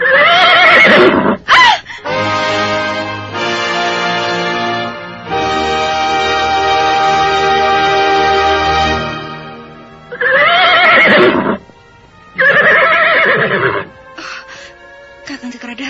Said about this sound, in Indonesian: Tiba-tiba kudaku melompat tinggi. Ada seseorang berbuat usil, Dinda Tunggadewi. Lihatlah, ada seseorang melemparkan batu ke arah kudamu.